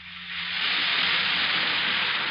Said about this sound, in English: And that's the sparkling sound of sal hepatica in a glass of water.